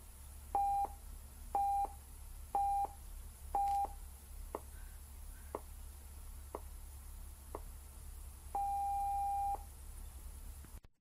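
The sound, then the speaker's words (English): A National Research Council official time signal on CBC Radio 1: four short beeps at a steady one-second rhythm, then a run of brief clicks, and finally a long sustained tone whose start marks exactly 10 o'clock Pacific Daylight Saving Time, all at the same mid-high pitch with no talking. “let's take a listen to what supposedly is the NRC time signal on CBC Radio 1”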